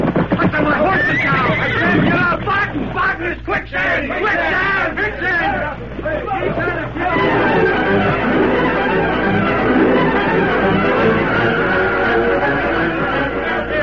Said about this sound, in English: Horses and riders alike struggled for their lives in the grip of the quicksand.